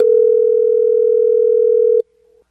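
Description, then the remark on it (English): A loud, steady telephone dial tone, heard after the called person hangs up during a War of the Roses call on radio station 106.5 The End, hums continuously for about two seconds, then cuts off abruptly, leaving only a faint, brief trace of the tone before silence. “Oh, well, did he just hung up?”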